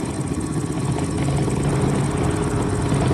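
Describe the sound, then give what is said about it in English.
Wolverine's motorcycle engine in a Wolverine video game rumbles steadily, a low, continuous idling drone with a slightly rough, throbbing texture, loud, with no voices. “Wolverine on his motorcycle.”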